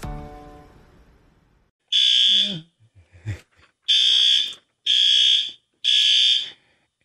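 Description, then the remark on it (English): A fire alarm blares indoors in loud, shrill, piercing blasts, four of them in a steady pulsing rhythm, going off while a stove is on for cooking, after the fading tail of an earlier sound and a brief clatter. “That's probably why the fire alarm is going off in here.”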